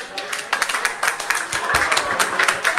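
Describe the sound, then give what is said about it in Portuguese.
An audience in the restaurant La Closerie claps steadily to welcome a singer back to the stage, many hands blending into a dense, crackling applause that holds at a fairly loud level for a few seconds, with a faint murmur of voices underneath. “Então eu quero ouvir as vossas palmas, por favor.”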